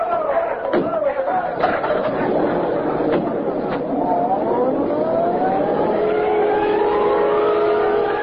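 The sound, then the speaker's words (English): Police car engines rev and accelerate away in pursuit of a kidnapper, their pitch climbing steadily and loudly over a few sharp door slams and a murmur of agitated voices. “Into the cars, men!”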